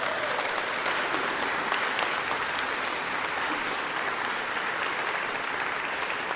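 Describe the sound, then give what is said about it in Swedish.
Steady, dense applause from a large audience at a choir concert, a continuous wash of many clapping hands at even loudness throughout, with no voices standing out. “En större applåd vill vi ändå ge.”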